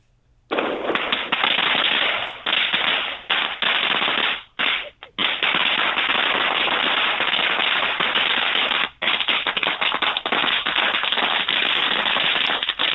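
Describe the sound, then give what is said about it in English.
A long, loud string of firecrackers pops in rapid, crackling succession for several seconds, throwing sparks into the air, with a couple of brief pauses before the dense bursts resume, harsh. “I think part of me is on fire, actually, because that was a string of firecrackers that that threw sparks in the air.”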